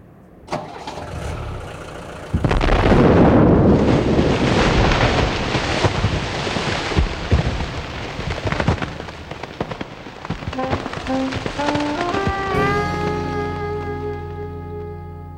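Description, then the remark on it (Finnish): A huge explosion tearing apart a truck container bursts in suddenly and loudly, followed by a long roaring, crackling rumble of debris, before sustained musical tones rise and take over toward the end. “Viimeinen muistikuvani oli rekkakonttia repivä valtava räjähdys, joka sinkosi automme ohjaamon sekä siinä olevan Don Dante Pallonetton pieninä palasina poronruhojen kerran usealle hehtaarille.”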